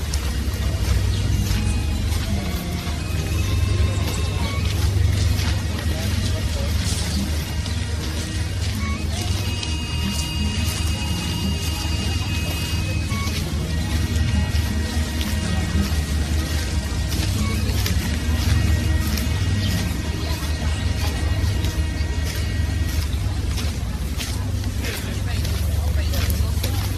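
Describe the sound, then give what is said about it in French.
Field recording of city street ambience beside the Seine in Paris, August 2000: a constant low rumble of traffic and engines with murmuring crowd voices, sharp clatters, and thin high tones drifting in and out at steady loudness. “Mix avec prise de son Paris, mois d'août 2000, Vert de la Seine.”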